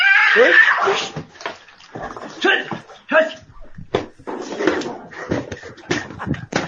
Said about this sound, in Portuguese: Ela briga, briga! Jugular do gato pegou. Briga de cachorro e gato. Pegou na jugular do gato. O gato não gritou mais, só o cachorro. Briga dos dois.